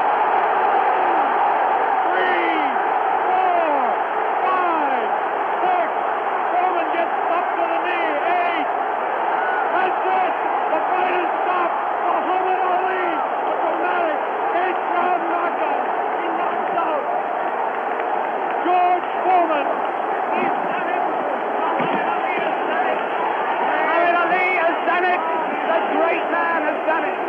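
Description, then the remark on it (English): A huge stadium crowd at a heavyweight boxing fight in Zaire roars continuously after a knockout as it rushes the ring, countless voices shouting and cheering at once in a dense, unbroken wall of sound with occasional whoops rising above it, somewhat muffled and thin as if from an old recording. “The crowd in the Zaire Stadium rushes the ring.”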